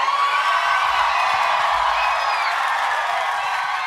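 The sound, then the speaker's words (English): A live audience cheers loudly and steadily, a dense wash of voices with scattered high whoops rising above the roar for several seconds. “This crowd is awesome.”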